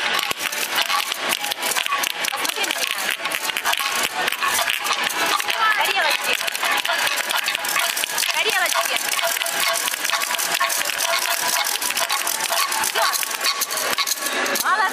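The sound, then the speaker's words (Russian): Dense, rapid clacking of wooden spoons and rattles, traditional Russian folk instruments, played together by preschool children at a celebration. A busy, continuous wooden clatter that stays loud throughout, with voices faintly mixed in. “А за соседним столом другие юные дошколята самозабвенно играли на исконно русских народных инструментах – трещотках и деревянных ложках.”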